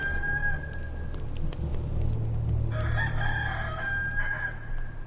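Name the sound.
rooster crowing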